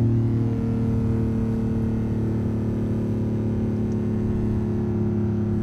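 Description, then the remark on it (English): A sports car engine hums loud with a steady, low harmonic drone, holding an even pitch throughout as the car is test driven in Midrand, with no voices over it. “It's a beautiful sound, isn't it?”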